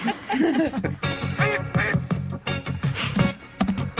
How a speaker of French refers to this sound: Un coin, tu veux un canard, hein. Un coin qui soit un petit peu. Un coin dub. Ouais, on va faire une audition de canard, quoi. On a déjà recalé deux canards.